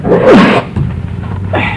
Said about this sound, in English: Now, I think I caught something from Representative Otto. Now I'm sneezing and got my handkerchief out.